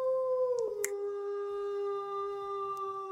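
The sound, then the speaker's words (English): A single long wolf howl sound effect, loud, holding a steady tone that dips slightly in pitch early on, then sustains smoothly with a few faint clicks underneath. “As soon as I realized which corner you were in, I was like, I got to get the wolf sound.”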